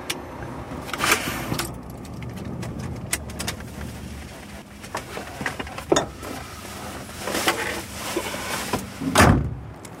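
Outdoor ambience on a large parking lot where trucks are parked, with a low rumble beneath, broken by several sharp clicks and clunks of a car door opening and shutting, plus bursts of jangling keys.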